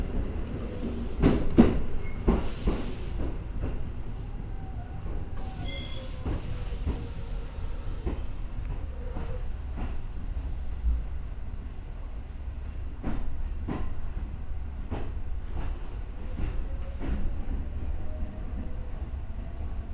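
A train rolls along the rails into Kasukabe, its last stop, with a steady low rumble, irregular clicks and clacks scattered throughout, and two brief bursts of hissing air early on. No one speaks.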